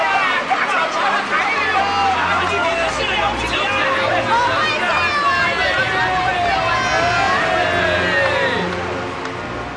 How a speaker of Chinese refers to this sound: 忽然哗的一声，人群中响起了一阵阵的惊叫声，紧接着是一阵比一阵热烈的鼓掌声和叫好声。